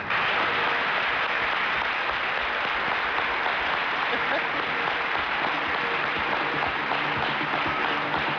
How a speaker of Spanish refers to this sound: Él es nuestro querido amigo, y pido otro aplauso para él, Santiago Camacho.